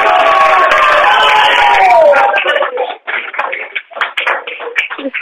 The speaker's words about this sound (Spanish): Es que tú les tendrías que ver aquí, todos los alumnos están con una sonrisa de oreja a oreja y están moviendo las manos, las agitan así, pidiendo el aplauso. Claro, hasta que no nos digas tú... Venga, adelante. Pues venga, el aplauso.